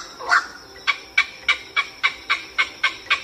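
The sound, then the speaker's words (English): A black heron calls in a quick, steady series of about ten short, harsh clucking notes after a rougher opening note, clear with no voices. “Our bird, also in the Ardidae family, comprising 74 species of herons, egrets, and bitterns, is the black heron.”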